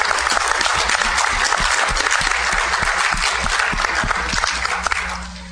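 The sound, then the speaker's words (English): A crowd applauds a couple who celebrated their 50th anniversary, many hands clapping in a dense, even roar that holds strong for about five seconds before tapering off slightly at the end. “I think that's deserving a round of applause.”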